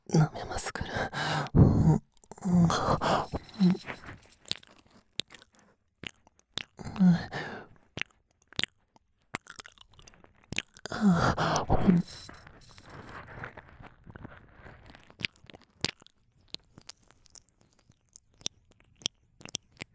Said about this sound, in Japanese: ダメですね。夢中で舐めてたから、お嬢様のこっちの耳をおろそかにしちゃって。